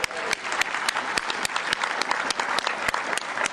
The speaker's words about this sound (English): We really appreciate it. Let's give you all a round of applause.